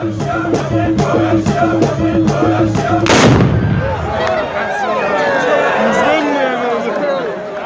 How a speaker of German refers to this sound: Da waren Männer zu sehen in traditioneller Bekleidung. Und mit einem Gewehr, aus dem es sehr oft geknallt und geraucht hat.